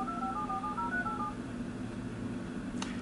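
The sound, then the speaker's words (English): A quick series of telephone dialing tones beeps in rapid succession, paired tones stepping up and down, as a voice-controlled Bluetooth phone system places a call to a contact's cell number, followed by a short click, all over a steady low background hum. “Calling Jason A. Whitehorn at cell.”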